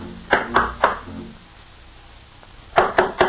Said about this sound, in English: All right, here, we'll just knock on the door.